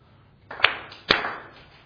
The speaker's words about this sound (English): Very good. Excellent. Give yourself 2.5 claps.